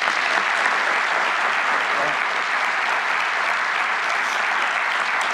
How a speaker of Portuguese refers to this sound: lado de nomes como os excelentíssimos senhores ministros Geraldo Quintão, o ministro Gilmar Mendes, o ministro José Bonifácio Borges de Andrada, que foram responsáveis pela estruturação da Advocacia Geral da União, a quem eu peço uma salva de palmas.